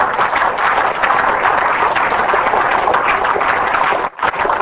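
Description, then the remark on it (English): An audience claps together in dense, steady applause that stays loud and even for several seconds, with a brief dip near the end before the clapping resumes, given as a hand clap to the Lord. No one speaks over it. “If you agree with that statement, give the Lord a hand clap.”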